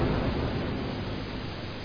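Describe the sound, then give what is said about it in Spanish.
A mountain torrent of water rushes steadily beneath a layer of ice and snow with no pauses, a dense, continuous roar that stays even in loudness throughout, with no voices present. “Esto es un torrente de aguas que discurre debajo de una capa de hielo y nieve.”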